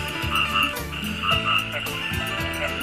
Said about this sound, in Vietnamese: Tiếng ếch nhái kêu râm ran cả khoảng trời đêm yên tĩnh nơi quê nhà sẽ mãi là những âm thanh thân thiết trong trẻo